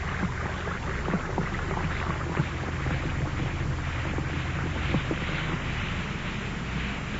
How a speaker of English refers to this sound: Well, Alka-Seltzer is made to order for people who can't swallow tablets. Just drop a tablet or two of Alka-Seltzer in a glass of water like this. Listen to it fizz.